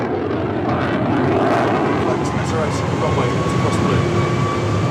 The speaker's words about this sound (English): A typhoon jet rips through the night sky above RAF Akrotiri in Cyprus.